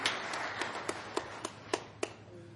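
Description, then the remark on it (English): Audience applause for the players: steady, evenly spaced claps, about eight sharp hand claps in a quick regular rhythm, fairly quiet over a faint steady background hum, with no talking. “Okay, let's have a round of applause for our players today.”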